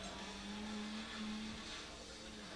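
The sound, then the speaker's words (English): A video game car engine drones and revs steadily and loudly for a couple of seconds, with a gritty, constant roar and no voices over it. “Dude, you're going to hit car. Oh!”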